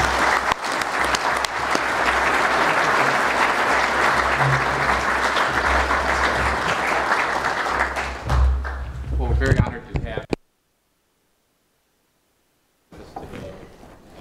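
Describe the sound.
An audience applauds steadily and loudly for about ten seconds, a dense wash of clapping that cuts off abruptly into silence before a voice begins speaking.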